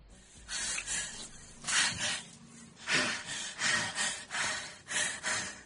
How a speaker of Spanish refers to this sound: Mucha respiración, ¿eh?